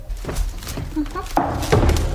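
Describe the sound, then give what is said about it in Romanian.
A door opens with a couple of heavy wooden thunks and a creak-like rustle, moderately loud, with faint muffled vocal sounds. “Se deschide ușa.”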